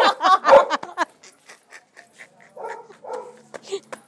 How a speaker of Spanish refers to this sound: Bueno, uno se ha ido ladrando para adentro. No ha sido de los mejores. ¿Quién está ladrando dentro?